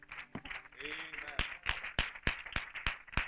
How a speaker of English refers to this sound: Round of applause, saints.